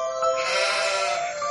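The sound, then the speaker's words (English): A single sheep bleats in one long, wavering cry that lasts over a second, fairly loud, with no other sounds around it. “The moon was out and we saw some sheep.”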